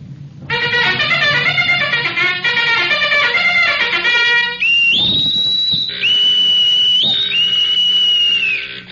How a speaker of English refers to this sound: Sound general quarters. Aye, aye, sir. Bugler!